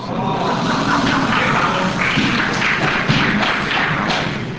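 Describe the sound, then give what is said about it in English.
An audience claps and hisses in a dense, steady wash of noise that holds at an even loudness for several seconds, with no voices standing out. “You're not going to change my mind by either clapping or hissing, and I doubt that you'll change your neighbors.”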